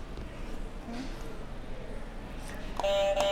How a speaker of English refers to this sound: Can you hit another buzzer for me?